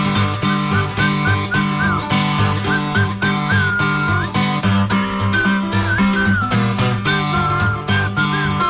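A steady, tuneful whistle, calling an animal named Frankie, carries a wavering melody over a full, loud musical backing with deep bass and dense instrumentation. No one speaks.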